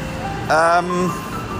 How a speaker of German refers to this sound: Jetzt kommt hier ein großer Lastwagen. Und mit diesem großen Lastwagen, wenn der vorbei ist, werde ich mich auch heute schon wieder verabschieden in den Sonntag. Eieieiei, das Müllauto ist laut. Aber auch das muss irgendjemand machen.